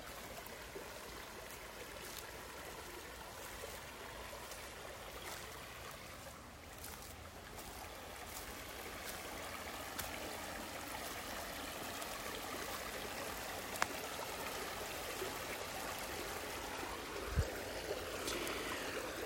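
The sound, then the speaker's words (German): A brook gurgles and burbles steadily beside a leaf-covered trail along its bank, its rushing water filling the whole stretch without pause, with a couple of faint knocks near the end and no voices. “Ich weiß nicht, ob du den Bach jetzt gurgeln hörst.”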